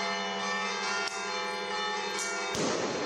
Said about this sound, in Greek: Οι καμπάνες χτύπησαν χαρμόσυνα για την πρώτη Ανάσταση στο κέντρο της Πάτρας.